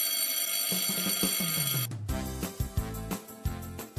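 A school dismissal bell rings loudly and continuously for several seconds, a bright metallic clangor with a steady rapid rattle and no voices alongside it.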